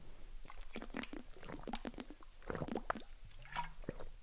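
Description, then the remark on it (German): Wet, squishy mouth sounds of someone sipping and swallowing a drink, with small slurps and gulps in an irregular rhythm, no talking. “Ich muss noch kurz einen Schluck trinken.”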